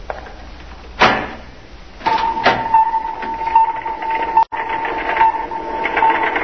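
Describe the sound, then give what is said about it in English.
A door being opened: a sharp clunk, then a loud, steady mechanical whirring hum with a high whine that runs on for several seconds, briefly cutting out once before resuming. “Open the door.”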